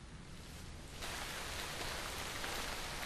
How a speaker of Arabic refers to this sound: أين كنت في هذه الأمطار؟ لقد قلقت عليك. المطر ربيعي فذهبت لأتمشى